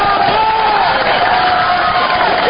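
A large crowd, almost all students, cheers and shouts in a dense, continuous, loud roar at a night rally for Ron Paul at the University of Michigan, with no single voice standing out from the collective noise.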